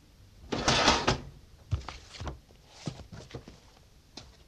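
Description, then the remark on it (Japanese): A cabinet's second drawer slides open in an office with a loud, rumbling scrape, followed by a few lighter knocks and rattles as things inside are shifted while someone looks for a branch office report, with no talking. “あ、そこのキャビネットの2番目の引き出しに入っていますよ。”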